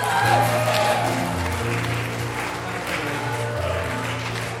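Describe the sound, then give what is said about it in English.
A crowd at the church at Luckin Castle claps steadily for a man for several seconds, a dense, even wash of applause with a low sustained tone underneath, staying loud throughout. “Yes, he deserves a clap.”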